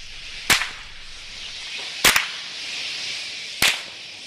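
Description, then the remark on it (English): Sharp, loud cracks of a stock whip, used by rangers to chase off thousands of flying foxes roosting in a park in Katherine, ring out three times a second or so apart, the middle one a quick double snap, over a steady high-pitched outdoor hiss and chatter. “Rangers are using clanging metal bin lids, car horns, even stock whips to try and chase them off.”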